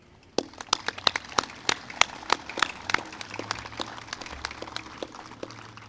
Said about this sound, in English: Thanks to everyone that attended tonight. We do appreciate it. I want you to give yourselves a great big round of applause.